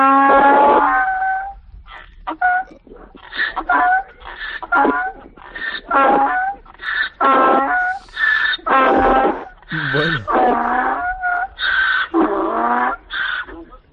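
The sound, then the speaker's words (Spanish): A donkey brays live on Radio Euskadi in a long run of harsh, wheezing hee-haw bursts, alternating high and low pitched pulses that rise and fall over several seconds, loud and rhythmic. “Estamos intentando conseguir que rebuzne un burro en directo.”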